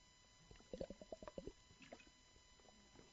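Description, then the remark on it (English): A quick run of about seven wet glugs of water, like pouring or gulping, followed by a few quieter liquid sounds against a faint background hum. “Deacon, have my water there.”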